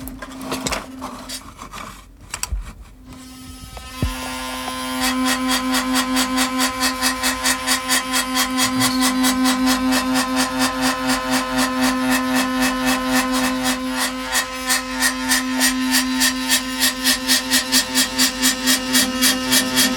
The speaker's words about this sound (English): You've been listening to a resonated dish with plastic cutlery on top, but it's not enough.